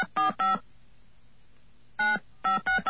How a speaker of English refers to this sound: Those of you with touch-tone decoders inside your head can figure out what the number is.